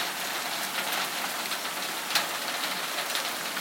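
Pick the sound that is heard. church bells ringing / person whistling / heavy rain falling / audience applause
heavy rain falling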